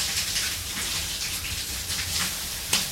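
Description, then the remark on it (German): Running shower water hisses steadily, a dense spray pattering continuously with slight surges and a brief splashy burst near the end, no voices present. “Eine kleine Geschichte der Körperhygiene in 100 Sekunden Wissen von Thomas Weibel und der Dusche.”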